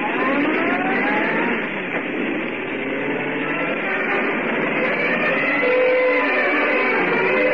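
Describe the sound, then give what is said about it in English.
A car engine revs and accelerates hard, its loud, steady roar climbing in pitch as the vehicle speeds off in pursuit of the Hornet, with no one speaking over it. “Get going, Cassidy. Step on it and don't let him out of your sight.”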